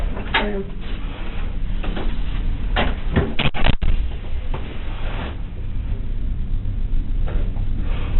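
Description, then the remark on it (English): Someone repeatedly tugs and rattles a locked door, a burst of sharp clunks and jolts bunched near the middle, over a steady low room hum in a muffled recording. “Angela starts to panic and attempts to open the door to ask detectives a question”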